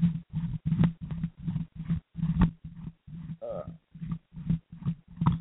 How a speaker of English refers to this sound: Let me adjust this mic over here.